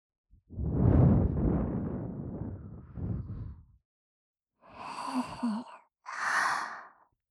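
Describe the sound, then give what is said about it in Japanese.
Soft breath blown into a sleeping listener's ear to wake them: one long drawn-out exhale, a brief pause, then two shorter airy puffs, intimate with no talking. “お主が目を覚ますまで、耳元で吐息、吹きかけてやろ”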